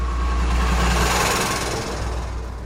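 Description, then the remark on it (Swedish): A van starts and its engine roars loudly, a steady low rumble with rushing noise as it reverses onto the road and speeds past, easing off slightly toward the end. No voices. “De startar den och backar ut den på vägen. Bilen passerar Selma och Osman i hög fart.”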